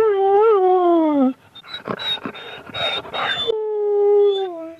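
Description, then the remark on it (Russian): A small male dog runs around whining at the site of a demolished chapel, in long, wavering high-pitched tones, broken in the middle by a burst of yips and whimpers, then another drawn-out whine. Fairly loud, with no talking. “Вокруг собачка ее мальчик бегает, скулит.”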